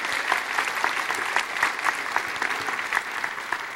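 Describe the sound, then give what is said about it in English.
A crowd claps steadily, a dense wash of many hands with sharp individual claps popping through, holding fairly even in loudness for several seconds with no voices. “And so give him a round of applause for choosing his personal family over this one.”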